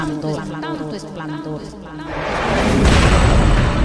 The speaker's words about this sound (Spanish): Pero un día mis sueños fueron interrumpidos por unos disparos que no cesaban.